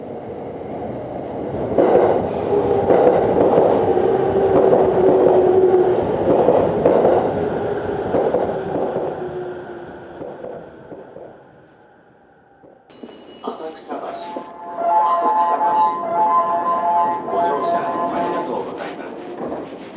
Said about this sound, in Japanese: 1番線に各駅停車三鷹行きが参ります。危ないですから黄色い点字ブロックまでお下がりください。